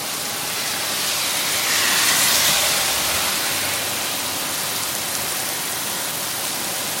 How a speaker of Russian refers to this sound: Я хочу записать. Так вот разместить телефон. Ливень прям.